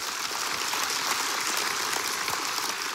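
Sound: audience round of applause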